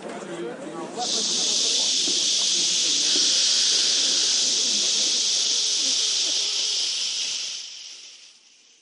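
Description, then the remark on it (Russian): A group of people imitate wind with a long, steady, breathy hiss that swells in after a moment of murmured chatter, holds evenly for several seconds, then fades away. “Ну, я предлагаю тогда еще и ветер поиграть, да?”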